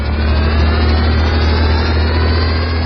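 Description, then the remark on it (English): A flying car's jet prop engines, one under each small wing, give a steady, droning hum with a deep low rumble and a faint high whine, holding constant and loud throughout as it flies, with no voices. “Those jet props under each small wing certainly keep the ship flying smooth.”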